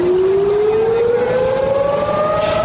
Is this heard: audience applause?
no